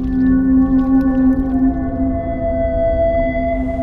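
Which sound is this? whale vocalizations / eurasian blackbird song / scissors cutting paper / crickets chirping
whale vocalizations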